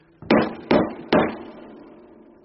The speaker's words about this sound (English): when you hear this knocking, you say, "Who calls so loud?"